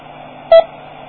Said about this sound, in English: That was a repeater I just keyed up. I hit the talk button. That beep was the courtesy beep of the repeater calling back. Now that repeater is a box with a radio and actually a computer at the other end.